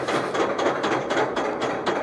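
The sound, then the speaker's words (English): A roller coaster chain lift on the first hill clatters in a steady, fast series of metallic clicks, about four per second, loud and continuous with no voices over it. “And you hear those clicks, the loud sound, it's really violent metal, chunk, chunk, chunk, and you go, what's going on here, you know?”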